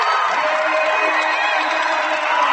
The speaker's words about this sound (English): You can tell by the roar of the Tiger crowd behind us.